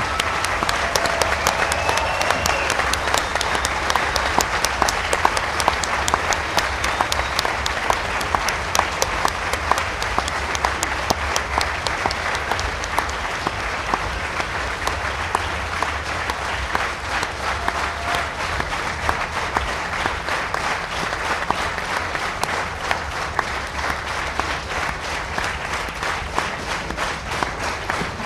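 Sustained audience applause fills the whole stretch, a dense, steady wash of many hands clapping at an even loudness, with no one speaking over it.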